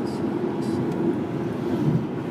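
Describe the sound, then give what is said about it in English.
A car's engine with at least two cylinders runs with a steady, low rumbling drone throughout, its throbbing beat hinting at only a couple of cylinders, with no clear speech over it. “You can hear that there are at least two cylinders in that engine.”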